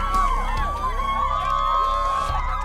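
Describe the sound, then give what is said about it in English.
A dense, continuous crowd roar with overlapping shouts and whoops, loud and sustained throughout, with a rising and falling tonal wail running through the noise. “The crowd is loving him.”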